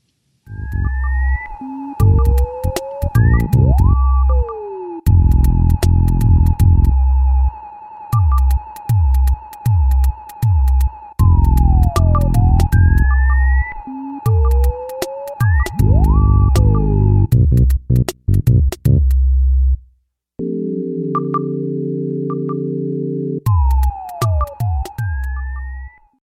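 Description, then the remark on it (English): The boss battle theme for Master Belch from Earthbound, the Super Nintendo RPG, plays on its own: synthesized music with pounding low rhythmic hits, a sustained high tone, swooping bleeps, and a short break before a buzzy chord section. “I guess the closest thing would be this piece I picked out of Earthbound, the old Super Nintendo RPG, which is actually a boss battle theme for Master Belch.”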